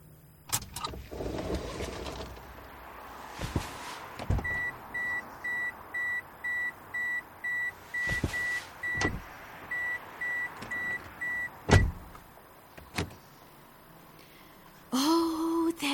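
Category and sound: vehicle, car being parked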